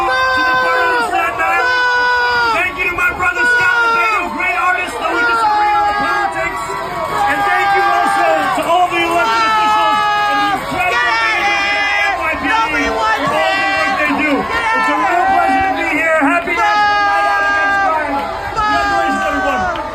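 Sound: crowd booing and shouting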